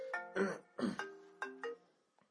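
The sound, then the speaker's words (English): A phone rings with an incoming call, playing a short electronic ringtone melody of several bright, stepped notes, clear with no talking, then trailing off into a couple of faint clicks. “Uh-oh, I don't know who that is. Somebody, though. It's on the air. We got to answer.”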